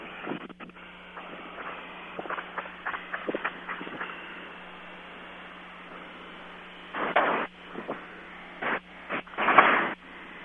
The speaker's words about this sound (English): We were able to hear just a few bursts, I think, of gunfire.